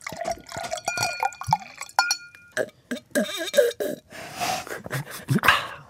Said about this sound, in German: Mineralwasser, das in ein Glas geschenkt und getrunken wurde.